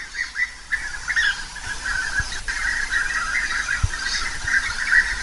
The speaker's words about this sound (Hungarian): Szajkót, búbosbankát és gyúrgyalag közül választhatunk, és ő a gyúrgyalag. Egy ilyen nagyon kellemes kis finom hangja van a gyúrgyalagnak, így van.